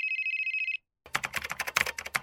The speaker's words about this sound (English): Oh, wait. My phone is ringing. My mother's calling me.